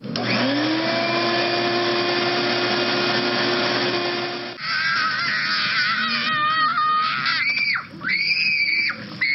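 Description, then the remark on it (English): A shop vac spins up and runs at about 70 decibels with a loud, steady roaring whine for about four seconds, then cuts away to a child's shrill screaming at about 80 decibels. “Heard a shop vac at 70, a kid screaming at 80, and then a motorcycle is 90 decibels.”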